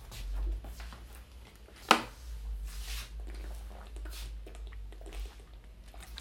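Someone takes a sip of water: a sharp click followed by soft, wet mouth and swallowing noises, all quiet over a low steady hum, with no talking.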